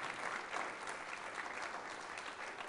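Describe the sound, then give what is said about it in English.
An audience at a live demonstration applauds steadily while being recorded on a camera in video mode, a dense wash of many hands clapping at once, fairly loud and sustained for a few seconds with no one speaking over it. “Do you guys want to applaud or boo, whichever you prefer?”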